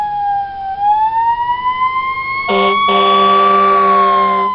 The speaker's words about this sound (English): And then the last sound is fire trucks.